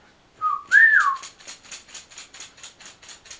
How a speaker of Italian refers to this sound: Non fischiare che fischio. Fischio io.